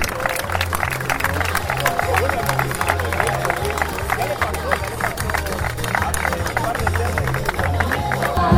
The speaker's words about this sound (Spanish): Y aplauso fuerte para él, porque no deja de ser un día muy importante.